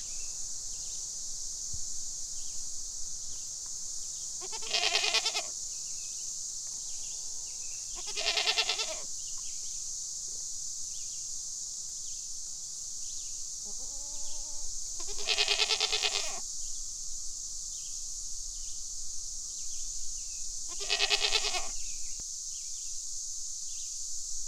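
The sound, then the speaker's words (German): Small and large goats bleat several times at spaced intervals, clear, while being fed grass picked by the wayside, over a steady high-pitched drone of crickets or insects. No one speaks. “Freudig nehmen dir die kleinen und großen Ziegen das Gras ab und schauen dich bettelnd an.”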